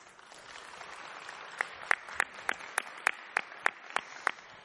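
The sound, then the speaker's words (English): A crowd in a room at a community meeting applauds steadily, welcoming a board member's return by the GNSO. A dense patter of clapping, and partway through a series of louder, evenly spaced sharp claps rings out above the rest. No one speaks. “from the applause in the room, I think you can see the community thinks you've made a popular choice.”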